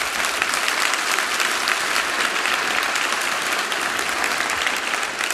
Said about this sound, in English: Look, that applause goes to the Lord who is the source of this.